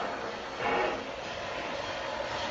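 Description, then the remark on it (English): A steam locomotive rolls along the rails, a steady, dense rush of hissing and rumbling noise that swells briefly early on, then continues evenly with no voices. “You know, there's nothing that stirs my imagination like the sound of a steam locomotive.”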